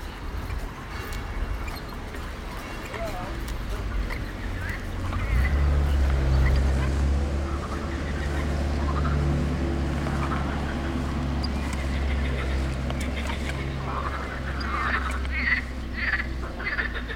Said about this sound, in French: I was hoping we would hear that. Ce qu'on entend, ce sont les grenouilles de Sospel, the morning chorus of frogs chirping on the river Bévéra.